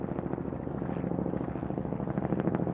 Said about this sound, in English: Kyrgyz helicopters, military helicopters, started to fly around overhead, and that's when everything changed.